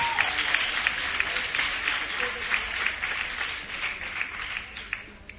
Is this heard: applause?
yes